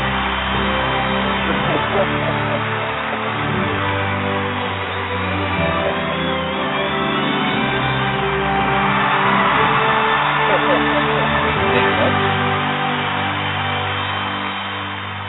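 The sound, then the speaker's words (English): A large crowd at a football stadium roars continuously as guest David Sexton is introduced, a dense wash of cheering with scattered shouts and whoops rising out of it, swelling louder toward the middle before easing slightly at the end. “And the crowd.”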